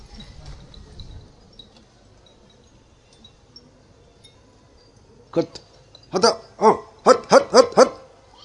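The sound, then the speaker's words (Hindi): After a quiet stretch, a dog barks about six or seven times in a fairly quick, uneven burst. The barks are loud, with low background noise before them. “कुत्ते का आवाज सुनने से हमें ऐसे सोचना है कि मैं उसी अवस्था में था।”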